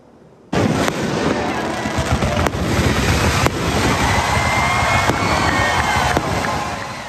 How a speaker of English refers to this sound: Afterward, more than 11,000 fans stuck around the DBAP and were treated to this amazing fireworks show after the game.